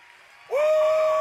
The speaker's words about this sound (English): Shout, clap your hands, praise the Lord.